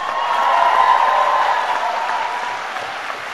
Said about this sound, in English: But I want you, the graduates, to give a big round of applause to all those people who have supported you.